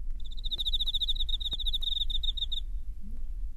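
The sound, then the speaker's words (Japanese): A cricket chirps at night from beneath the floor, in a steady, rapid pulsing trill for a few seconds, then falls silent, over a low background rumble with a couple of faint soft knocks. “電気を消して、一人で仰向けに寝ていると、背筋の下でコオロギが懸命に鳴いていました。”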